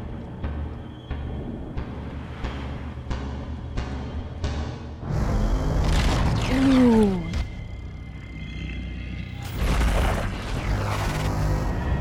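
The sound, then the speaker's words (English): Two heavy, booming synth honks hit a few seconds apart, low and loud, after a steady pulsing rhythm like a heartbeat, with a falling whine sliding down between them; a music cue from the scene where Billy stares out the window as Eleven and Max ride away on their bike. “We get two hits of this low synth warning honk.”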